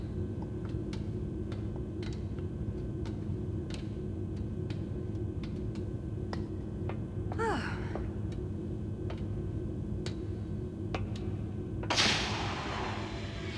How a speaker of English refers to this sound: A steel door shuts over the ladder they've climbed,